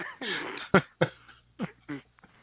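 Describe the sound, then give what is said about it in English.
A smoker coughs several times in quick succession, starting with a raspy, drawn-out cough followed by three or four sharper bursts with short pauses between them. “I didn't notice because I had to move the phone away from me because I started coughing.”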